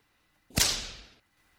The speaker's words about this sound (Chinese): 这是一条鞭子。哼，没想到吧，你姐姐我虽然没有接触过 SM，但是却有一条专门用来抽像你这样抖 M 见狗的鞭子呀。